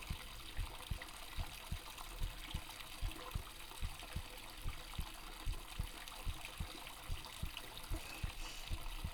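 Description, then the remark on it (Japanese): A steady heartbeat of a nervous person in a bath thumps in low, regular double pulses, muffled as if heard through the chest, with a faint watery wash underneath and no talking. “心音どうかな、うるさくない？”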